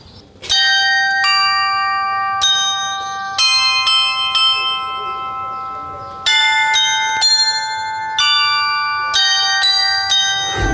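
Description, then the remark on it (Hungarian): The clock tower's clock play in the Kossuth courtyard in Fehérvár plays a tune on tuned bells, a sequence of clear ringing strikes roughly every second, each note bright and sustained with a shimmering overlap as they decay. “Az órajátékot a Kossuth udvarban nézhetitek és hallgathatjátok meg”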